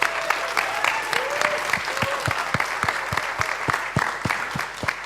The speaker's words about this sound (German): Und da ist ein super Applaus, aber die allerhöchste Stufe fällig.